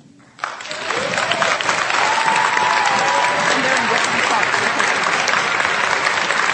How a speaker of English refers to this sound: 15 years in the competition. Please put your hands together and help me welcome to the Hall of Fame, E.T.